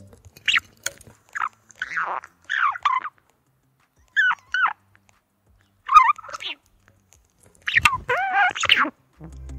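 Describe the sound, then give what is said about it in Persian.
A budgerigar screeches in a series of short, harsh, high-pitched bursts separated by brief pauses, fairly loud, with no talking. “پرنده‌های ماده وقتی آماده جفت‌گیری میشن خیلی زود رنج و عصبی میشن و همش جیغ میزنن.”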